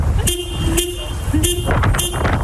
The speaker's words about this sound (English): This dog jumps up and is slamming hard on the horn repetitively, so cool. Like knowing exactly what it's doing.